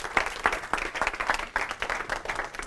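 An audience applauds to welcome a guest, a steady wash of many hands clapping with sharp individual claps standing out in an uneven rhythm, moderately loud and continuous throughout.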